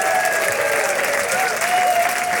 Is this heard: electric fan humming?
no